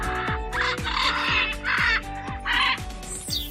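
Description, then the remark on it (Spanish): Harsh, raspy screeches from two large macaws, one blue and one red, burst out in four or five loud calls at an uneven pace, with no one talking over them, at the Casa de Colón in Gran Canaria. “Así gritan los guacamayos.”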